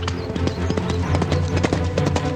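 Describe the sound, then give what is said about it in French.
Horse hooves clip-clop in a quick, steady rhythm as a rider urges the horse forward, the sharp knocks clear over a sustained tonal background, with no one speaking. “puis donnant une brusque saccade de bride à son cheval, il le fit se porter en avant d'une vigoureuse pression de bottes.”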